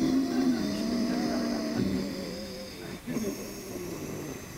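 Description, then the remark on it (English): A long, steady ujjayi breath drawn through a constricted throat, a raspy, ocean-like rush with a slight snore-like buzz, fairly loud, briefly dipping before continuing. “Instantly, ujjayi breathing.”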